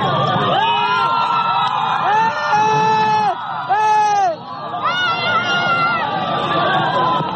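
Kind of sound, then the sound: crowd, supporters cheering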